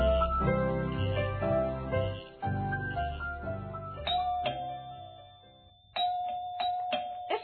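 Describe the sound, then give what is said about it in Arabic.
A short musical passage gives way to a doorbell chime ringing out a few times, each bright ding leaving a sustained, ringing tone that slowly fades. No one speaks. “افتح الباب يا فاطمة. أنا سوف أفتح الباب.”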